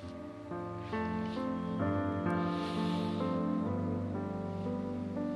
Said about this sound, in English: Did you like the whales? I wish I could tell you what they have to say.